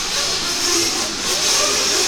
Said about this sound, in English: And I don't know what class this is. What class of cars this is actually. I think it's, these are buggies.